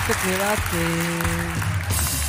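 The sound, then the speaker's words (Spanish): An audience claps steadily and loudly throughout for a correctly answered first question, with voices letting out drawn-out exclamations over the applause. “Primera pregunta, bien respondido, un fuerte aplauso.”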